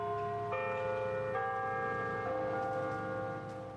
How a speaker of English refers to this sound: I meet Villarreal on San Francisco's Embarcadero on the edge of the bay. You can hear the bells sounding behind us in the clock tower of the ferry building